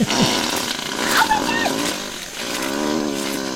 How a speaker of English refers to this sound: This literally captured these sounds for the first time, I think, in the wild. Wow. Which is pretty fantastic. I've got 20 more seconds of gorilla farts. Oh, do you really? Yeah. They live in a semi-permanent state of flatulence.